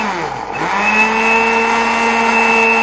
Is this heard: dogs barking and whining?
no